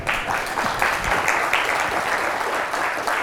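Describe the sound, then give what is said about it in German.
Sustained audience applause from a large crowd at the Chemnitz Linux Days, welcoming a speaker to a morning talk; dense overlapping claps form a steady wash of noise throughout, fairly loud and continuous with no voices standing out. “Bitte warmen Applaus für die Vortragende.”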